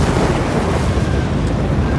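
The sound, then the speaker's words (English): A loud explosion roars, a deep, rumbling blast that stays dense and steady for the full two seconds without fading. No voices are heard. Spanish gunpowder supplies inside a village church explode after a flaming torch lands in them, engulfing the church in a raging fireball. “Seconds later, there's a loud explosion, and the church is engulfed in a raging fireball.”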